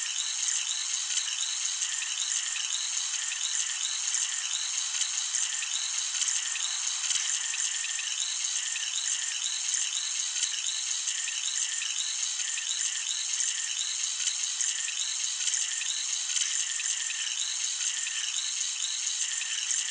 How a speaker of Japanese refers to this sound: 不思議ですよね。このシュワシュワとした感触。炭酸を用いて耳洗浄をしているので、この特別な心地よい感覚がするんですよ。